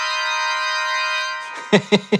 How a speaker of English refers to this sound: Let's hear the organ chord.